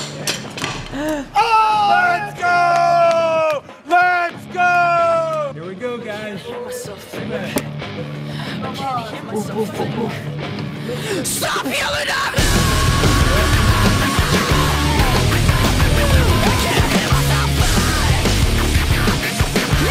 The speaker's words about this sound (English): The thing that's happening, maybe one of my favorite energies we've had on a video shoot. It's so fun. Yeah. The whole vibe of this thing is so fucking fun. It's like screaming and freaking out and then dancing around.